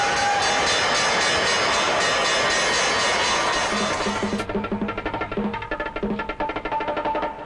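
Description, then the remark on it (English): A packed subway train roars loudly and steadily along the tracks, then its noise thins into a rhythmic clattering rattle as it continues. No voices. “Surging from packed subway and ferry, 1.5 million people cram this island tip as trading hours approach.”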